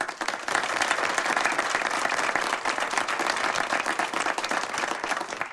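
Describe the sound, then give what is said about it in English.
An audience applauds steadily, led by the first speaker: a dense, even wash of many hands clapping at once that holds for several seconds without a break. “The first speaker leads the applause.”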